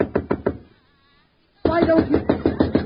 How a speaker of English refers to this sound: Now, I knock on your door.